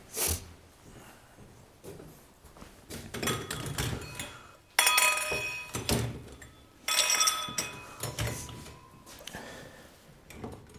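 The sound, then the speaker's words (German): Whisky nosing glasses clink and tap, with a few bright ringing knocks and handling sounds spread over several seconds, as the glasses are set down and moved around while whisky is poured for tasting. “Da haben wir jetzt natürlich spezielle Whisky-Gläser.”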